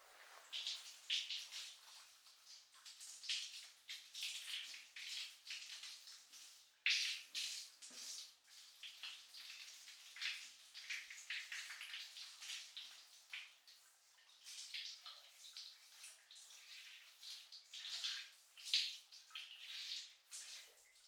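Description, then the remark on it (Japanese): A steady shower spray hisses for about twenty seconds as someone is rinsed off, with its splashing texture shifting as the water moves. There is no talking. “じゃあシャワーで洗い流しますね。”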